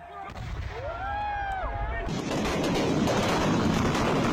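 Firecrackers set off on a Saturday night at a temple festival in Kerala, India: a wavering whistle rises over a low rumble, then a dense, loud, unbroken barrage of crackling blasts takes over and roars steadily to the end.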